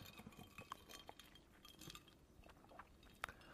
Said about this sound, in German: Du möchtest anstoßen? Ja, ich möchte einmal kurz anstoßen. Prost. Prost.